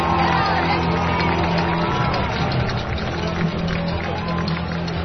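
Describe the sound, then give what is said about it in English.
A dense, steady roar of crowd cheering at a high school homecoming football game, LaPorte Slicers vs. Crown Point Bulldogs, as the Bulldogs run onto the field; loud and sustained throughout with a thick wash of voices and occasional shouts rising above the din. “Listen to that crowd.”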